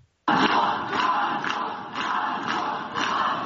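A crowd of protesters gathered outside the jail holding Sahare Tsikhanouskyi, husband of presidential candidate Svyatlana Tsikhanouskaya, shouting and chanting together, a dense, steady roar of many voices with rhythmic swells, loud throughout after a brief silent start.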